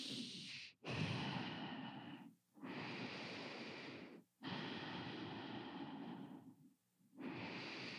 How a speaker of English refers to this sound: You're breathing through your nostrils. You might want to take a Kleenex and just clear your nostrils because we're going to be blowing out kind of hard. But don't let anyone call you a blowhard. You're just blowing a heavy breath through your nose.